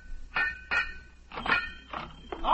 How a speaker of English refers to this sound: What do you got, a new hobby, banging the pipes?